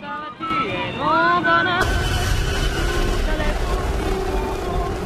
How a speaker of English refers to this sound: One of the mice regards the tractor nervously, its huge tires followed by the fast spinning blades of the crop threshing machine it's towing behind. The mouse darts for cover. In slow motion, the tractor rolls along through the field.